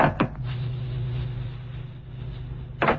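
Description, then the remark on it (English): A door opens with a short mechanical clunk and a low rumbling slide, settling into a steady low hum before a second bump at the end. No one speaks. “Well, we can open the door now and see for ourselves.”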